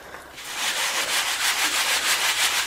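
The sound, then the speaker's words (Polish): A sieve (przetak) is shaken back and forth to demonstrate winnowing grain, in a steady, quick rhythm, producing repeated hissing, rattling swishes like grain sliding over mesh, with no talking. “Ja to pokazuję na przykładzie przetaka.”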